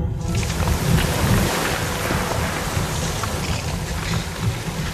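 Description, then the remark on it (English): A loud, steady rush of water pours continuously out of a hole made with a pickaxe in an underground rock wall and spills onto the floor. A deep rumbling roar runs underneath and a hissing spray sits on top, with no voices. “Water came out onto the floor around us.”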